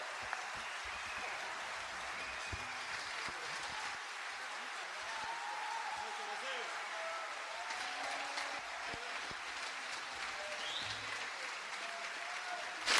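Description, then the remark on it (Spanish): Steady, dense applause from a large audience in the main hall of the Usina del Arte after a performance with a bombo drum group, a continuous crackle of many hands clapping at an even level for the whole stretch, with no voices standing out. “Esos aplausos.”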